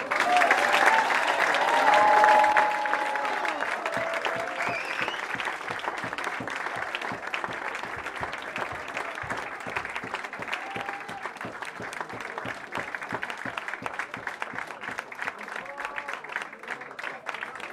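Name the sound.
audience applauding loudly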